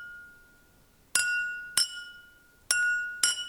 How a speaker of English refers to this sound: Leave the first glass empty. Put a quarter cup of water in the second glass. Tap the first glass and the second glass. Do they still sound the same? So this one's empty, and this one has a quarter cup of water in it.